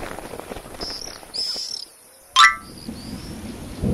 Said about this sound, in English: It started to rain, and they dashed into a cave for shelter.